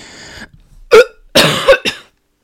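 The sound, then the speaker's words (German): A wet, sputtering cough from someone who nearly choked on saliva: a breathy rasp, then three sharp, loud coughs in quick succession, the middle one longest, with a gurgly, saliva-filled edge as the saliva is coughed back up. No talking. “Ja, ich habe gemerkt, dass ich kurz davor bin, mich zu verschlucken und habe es noch versucht aufzuhalten.”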